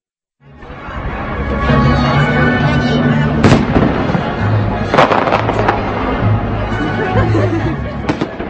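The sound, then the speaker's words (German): Fireworks burst in a handful of sharp, irregular bangs and crackles, one sudden loud pop after another, over a steady crowd murmur and a low, sustained droning tone, at the Saturday closing of the 43rd International Film Festival in Karlovy Vary (Karlsbad). “Mit Pauken, Trompeten und Feuerwerk und vor allem mit guter Laune endete am Samstag das 43. Internationale Filmfestival in Karlovy Vary, Karlsbad.”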